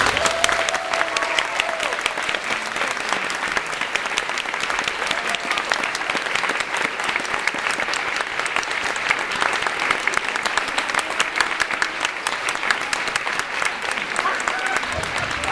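Sustained audience applause, a dense wash of many hands clapping steadily at an even, fairly loud level for about fifteen seconds, with a faint murmur of voices mixed in.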